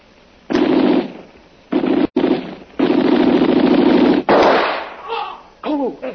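gunshots

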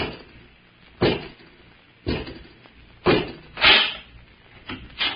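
door being opened

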